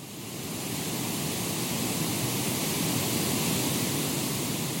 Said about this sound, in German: Das ist ein sehr leiser Ton, der ist knapp über der Hörschwelle. Das muss man natürlich individuell ausmessen, gerade bei Parkinson- und Alzheimer-Patienten.